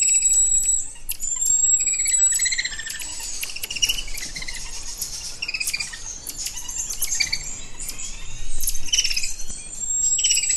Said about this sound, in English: But when the volunteers open the corridor door to go in to care for the monkeys, these are the sounds that we hear.